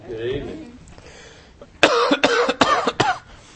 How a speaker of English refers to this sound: I think I coughed more this morning than I did last week, and I'm trying to get better. I feel better, but it's just sticking with me.